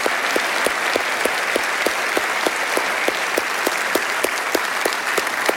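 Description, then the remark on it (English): An audience applauds steadily to welcome new sixth graders, a dense wash of clapping with a few sharper, rhythmic claps standing out at a regular beat throughout, sustained and fairly loud with no talking. “Like a touchdown, I want you to help me welcome all the new sixth graders on all of our campuses with a huge round of applause.”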